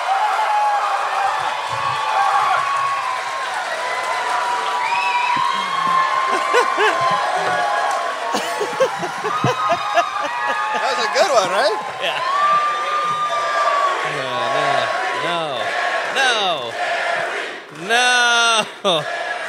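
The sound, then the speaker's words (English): A large live audience shouts and cheers together, a dense wall of many voices with whoops and rising yells, loud and sustained throughout, swelling near the end. “The joy on some of your faces shouting that is”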